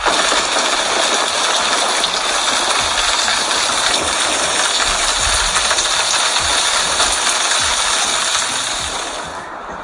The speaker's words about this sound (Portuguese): E durante a gravação do tutorial, ocorreu uma forte pancada de chuva.